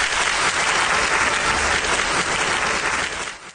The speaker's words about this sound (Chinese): 南国的冬夜，在火箭军某旅礼堂里，一场导弹精兵先锋模样的情景课精彩上演。伴随着铿锵的旋律，数位高级军士身披红色绶带，胸前挂满奖章，精神抖擞地走上舞台，赢得了官兵们经久不息的掌声。